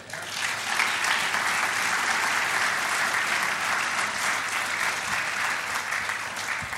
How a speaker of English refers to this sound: Yes, yes, it's been a very, very good conference, and I think certainly a round of applause and certainly congratulations to our staff who have laid this conference on should be made.